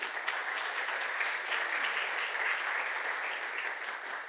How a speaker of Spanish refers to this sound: Dar un aplauso a Dios.